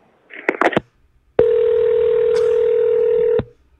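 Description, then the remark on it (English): A brief burst of clicks and muffled noise cuts off as a phone call to order pizza is cut off, with a loose phone cord, then a steady, loud telephone dial tone hums at one pitch for about two seconds before stopping abruptly. “My brother was trying to order some pizza, and I think he got cut off.”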